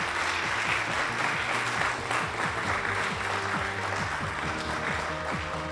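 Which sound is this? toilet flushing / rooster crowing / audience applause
audience applause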